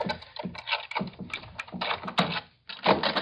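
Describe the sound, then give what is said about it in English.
Keys jingle and scrape against a locked door's lock in quick, uneven bursts of metallic clicks and rattles as they are tried, with a brief pause before a final fumbling flurry. “Try your keys first.”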